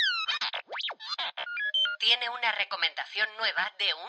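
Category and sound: signal or alarm, telephone ringing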